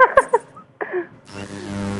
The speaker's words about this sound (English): And the battery of my laptop just ran out a bit, so I have to start my engine. I don't know. I hope it's not disturbing, but I'm going to start my engine.